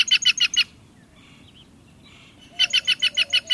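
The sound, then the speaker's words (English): Two quick bursts of harsh, raucous, rapid calls from a green jay, each a run of about five loud notes, separated by a short quiet gap with faint background chatter of other birds. “You can see a green jay at the Rio Grande Valley Birding Festival.”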